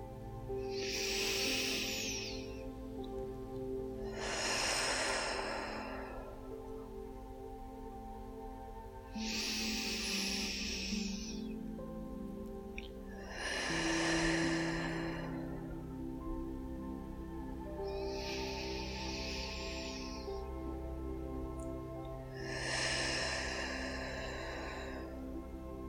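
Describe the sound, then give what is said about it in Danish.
Three slow, deep breaths taken together in a guided breathing exercise, each an airy inhale through the nose followed by a breathy exhale through the mouth, evenly spaced over a soft, steady background drone. “Vi starter med lige at tage tre dybe vejrtrækninger sammen, for at give åndedrættet plads i dit bryst.”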